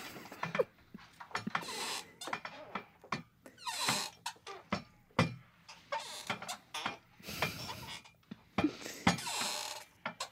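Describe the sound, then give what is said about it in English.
A person imitates whale calls with a rapid, irregular run of sharp clicks and high, wavering squeaks, some sliding up and down in pitch, with short pauses between bursts and no talking. “Just make squeaks.”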